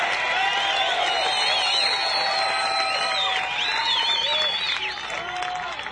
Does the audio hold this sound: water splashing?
no